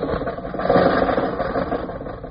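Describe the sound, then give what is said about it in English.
An old car engine runs steadily with a rough, sputtering rattle, fairly loud, nothing else heard for the couple of seconds. “I threw a cough drop in the gas tank. Now, Rochester, drive us out of North Hollywood.”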